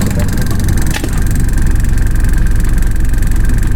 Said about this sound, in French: À l'intérieur de la concession, on peut apercevoir de la ferraille, de vieilles télé, de vieilles radios, des réfrigérateurs déjà réparés par-ci, par-là. Des ventilateurs de plusieurs réfrigérateurs tournent sans cesse.